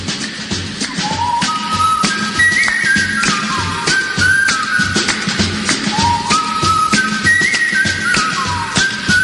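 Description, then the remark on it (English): A bright, cheerful whistled melody glides and steps through a tune over a full, busy instrumental backing, loud and up front, with sliding notes and bouncy rhythm. “Please don't blame me if you're whistling this later on. You might be whistling it for days.”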